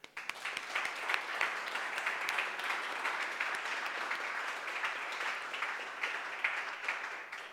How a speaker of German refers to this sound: Applaus für alle Väter hier in diesem Saal.